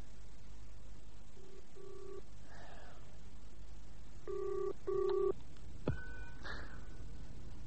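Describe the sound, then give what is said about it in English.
Short touch-tone beeps as a telephone number is dialed, with a pause between bursts, then a click and a brief ringing tone on the line. No one speaks. “You got his phone number handy?”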